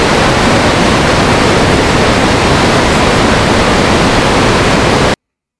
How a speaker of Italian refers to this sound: Adesso lo trasmetto un'altra volta e poi ci metto sopra del rumore bianco molto forte. Devi andare al supermercato a comprare 2.